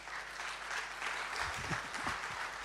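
An audience claps hands in a steady, dense patter of applause that holds throughout, with faint voices surfacing briefly in the second half.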